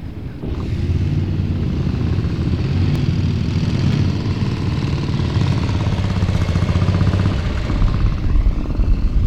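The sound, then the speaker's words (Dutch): A heavy Triumph motorcycle engine, an English make, rumbles steadily for the whole stretch at a main gate, with a thin bagpipe drone faintly riding above the deep, throbbing roar, played by someone riding on the back of the motorcycle. “Dus dit is iemand achterop een motor met een doedelzak.”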